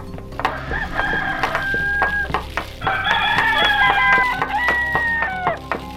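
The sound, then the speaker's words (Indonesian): A rooster crows loudly, two long drawn-out calls one after another, with other fowl clucking faintly underneath. No one speaks. “dan ayam jantan pun berkokok sebagai tanda datangnya pagi.”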